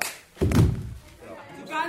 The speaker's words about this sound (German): Auf der Probebühne 2 der Oper Köln gibt's Ärger. Zwei Mädchen rangeln miteinander. Dann holt die eine aus und gibt der anderen eine schallende Ohrfeige. So sieht's jedenfalls aus.